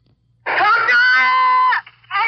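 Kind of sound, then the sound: human body sound, young boy screaming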